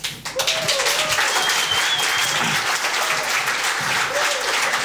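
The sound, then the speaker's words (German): Sustained audience applause for the hosts sitting down on newly provided chairs. It is a dense, steady wash of clapping from a crowd that starts abruptly and holds at a fairly loud level throughout, with faint voices mixed in beneath it. “Applaus fürs Hinsetzen, das erwarte ich eigentlich erst so ab 75 plus.”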